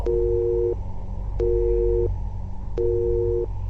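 signal or alarm, telephone disconnect tone

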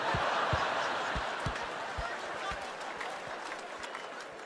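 crowd, a single person clapping

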